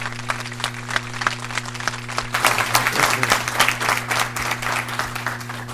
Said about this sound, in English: Congratulations to our amazing coaches. I really think they deserve another round of applause.